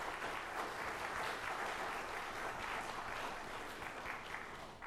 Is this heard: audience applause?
yes